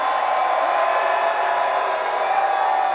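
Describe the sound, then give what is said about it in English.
A large crowd at a music event at Meadow Creek screams and cheers for one more song in a dense, sustained roar of high-pitched voices, steady and loud for the whole stretch with no pauses. “If you'd like to hear one more song, we want to hear you scream.”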